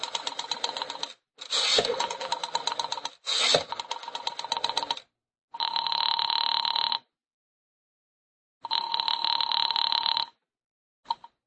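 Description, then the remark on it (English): A telephone rings over a line in two long, steady bursts with a pause between, after a stretch of clicking and rattling sounds as a woman dials the phone; no one speaks. “knowing how foolish it was, knowing it, went to the phone and dialed.”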